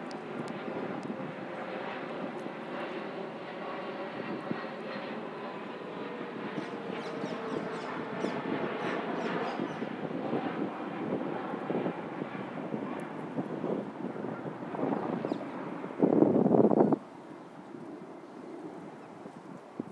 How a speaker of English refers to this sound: You can still hear the planes, which you can always hear in Richmond.